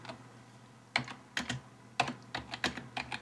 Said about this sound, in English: Oh, she's typing, how do I feel about Kochi?